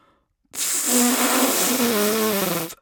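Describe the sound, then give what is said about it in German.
Someone blows into a cucumber with its ends cut off and holes drilled in it, meant as a flute: a single breathy, hissing rush of air lasting about two seconds, with a faint, wavering low tone underneath and no clear flute note. “Naja, eigentlich sollte das eine Flöte werden. Aber ich finde, das klingt noch nicht mal wie eine Tröte.”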